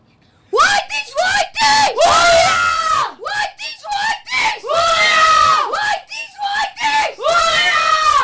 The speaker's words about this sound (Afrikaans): Ok, nou, laastens, wil ek jylle, allemaal het ons een war cry, ja, so oorlogskreet, gaan jylle het vir ons doen?